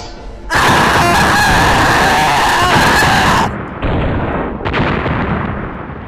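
Explosives set off against Pyramid Head: a loud explosion erupts into a sustained rumbling roar for a few seconds, followed by a second blast and continuing noisy crackle, with no voices.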